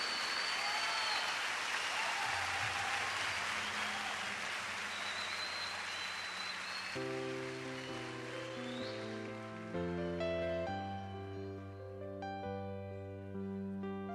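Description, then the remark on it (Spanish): A crowd claps loudly and steadily for several seconds at an evening music event; the applause then thins out as music with sustained tones comes in and carries on to the end. “Otro es el artista y iniciamos dándole el mejor aplauso de este momento y de nuestra vida a ese único artista.”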